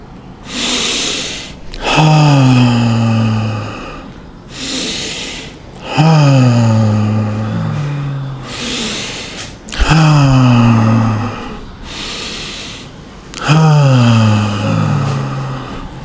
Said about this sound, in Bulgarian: Жестта му, вдишването и издишването, и как дъхът се слива с усещането за тялото. Нека дишането сега да е дълбоко.